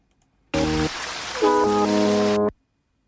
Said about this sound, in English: Here we go. This song has been reversed.